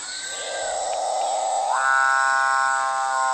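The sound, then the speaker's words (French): A capuchinbird (bare-necked fruitcrow) in the forest gives a single long, droning call, a low buzzy moan that swells and then jumps abruptly to a higher, rich harmonic tone, held loudly for about three seconds with no voices. “Bon alors là, on dirait un peu un croisement entre un chacal et une tronçonneuse.”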